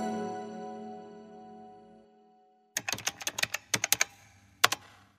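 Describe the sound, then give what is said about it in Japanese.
A fading musical tone dies away, then typewriter keys clatter in a quick uneven burst of about ten sharp strikes, pause, and snap twice more, crisp, as a sobbing person's head drops onto the typewriter. “タイプライターに頭を落とし、すすり泣きに合わせてカタカタと音をさせながら。”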